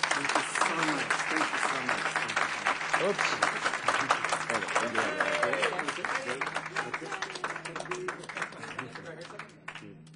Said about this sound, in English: And he has his own cheering crowd, which is really, wow, if we could start getting competitions for cheering crowds for the commitments.